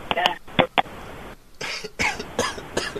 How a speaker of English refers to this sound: I'm having coughing fits over here. Sorry, everyone.